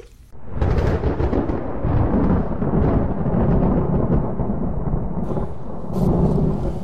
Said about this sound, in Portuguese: Bora pôr o gado pra dentro, vem chuva forte aí.